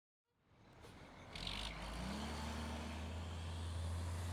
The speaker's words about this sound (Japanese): あ、早くしないとゴミ収集車来ちゃう。